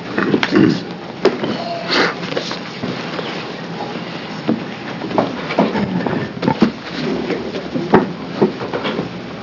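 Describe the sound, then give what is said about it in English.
Linked chairs being yanked apart, with a series of sharp metallic clanks, rattles and scrapes at an irregular pace, fairly loud and unbroken by any voices. “I think the chairs are hooked together.”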